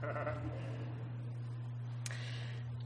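A short sheep bleat at the very start, a brief wavering cry that fades quickly over a steady low hum, followed by a faint click and then quiet.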